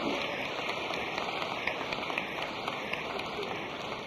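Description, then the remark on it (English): Sustained audience applause, a dense, steady crackle of many hands clapping at once that holds an even loudness for the full four seconds with no talk over it. “If I could have heard some of this applause about 5 years ago, it would have been a better situation.”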